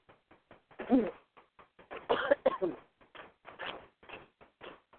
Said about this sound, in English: Oh, I got a little cough here. Hold on just a second while I take some water.